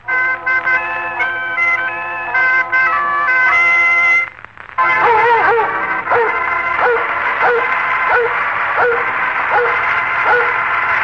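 Sustained organ-like tones give way to Lassie, the Metro-Goldwyn-Mayer motion picture star dog presented by Red Heart dog food, barking repeatedly, roughly once a second, with steady, loud barks over a faint background.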